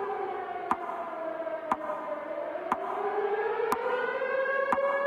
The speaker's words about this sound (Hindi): यहां श्रद्धांजलि सभा का आयोजन किया गया। इस सभा में 26 अप्रैल 1986 को जिस वक्त परमाणु संयंत्र में पहला धमाका हुआ था, घड़ी के मुताबिक ठीक उसी वक्त पर फायर ब्रिगेड के सायरन बजाए गए और उस मंजर को याद किया गया।